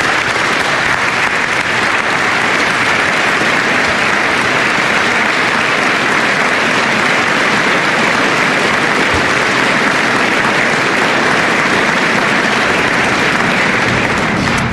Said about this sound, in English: Let's give them a big round of applause as well.